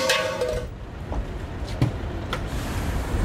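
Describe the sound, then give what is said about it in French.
A bus that has just arrived in a parking lot in Orléans, France, carrying Sanofi employees from Toulouse, idles with a steady low engine rumble, joined by a brief hiss and a few sharp clunks and knocks, like doors or fittings moving. “Sur un parking et on va prendre place à bord d'un bus qui vient d'arriver, le bus des salariés de Sanofi de Toulouse, qui se rend aujourd'hui à Paris pour aller à l'Assemblée Générale des Actionnaires.”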